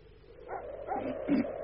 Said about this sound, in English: You hear that blooming dog? Something must have disturbed him.